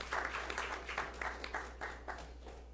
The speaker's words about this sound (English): Okay, let's give one big round of applause again to all our recipients tonight. And thank you for what you've done.